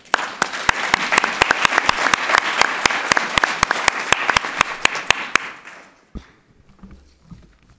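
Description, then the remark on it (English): An audience applauds the panel speakers at the close of a session, steadily for about six seconds, dense overlapping claps with a few sharper hand claps standing out, then the clapping fades quickly into a quiet room with faint movement. “And I think with that, we close the session and give all our speakers a huge round of applause.”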